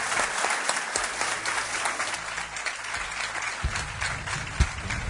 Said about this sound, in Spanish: Gracias a los dos. Pido un aplauso para ellos.